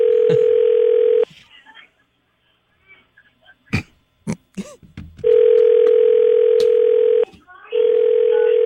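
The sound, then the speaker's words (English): A loud, steady electronic telephone tone sounds as a call goes to voicemail, breaks off while a few short voiced bursts and mumbles are heard, then resumes in two long sustained stretches with a brief gap between them. “I think we got our first voicemail.”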